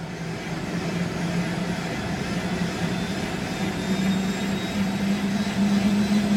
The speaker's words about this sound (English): Yes, so we're in the helicopter now. It's a significantly more spacious aircraft than the tiny little electric airplane I was in a few moments ago.